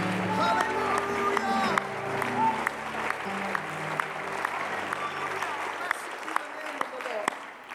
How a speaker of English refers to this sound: Why don't you clap your hands to him and lift him up and shout to God before you're seated tonight.